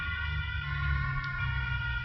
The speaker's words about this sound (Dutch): Even wachten op de ambulance die voorbij is.